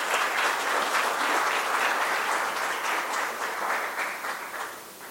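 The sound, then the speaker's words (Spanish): Sustained applause from an audience for two people taking part virtually, a dense wash of many hands clapping at steady loudness that tapers slightly toward the end, with no one speaking. “Un saludo, un aplauso para ellos dos, por favor.”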